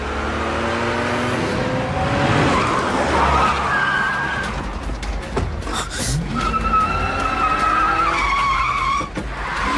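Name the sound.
car skidding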